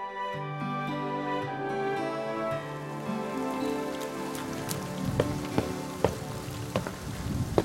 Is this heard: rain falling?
yes